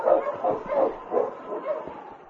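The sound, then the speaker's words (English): A husky, urged on toward the dock, barks repeatedly in quick, yipping bursts, a steady run of mid-pitched, moderately loud barks with a few whining edges and no pause in between. “On, King. On, your husband. We'll soon be at the dock. That whistle. Both must be leaving. We've got to get aboard. On, you husky.”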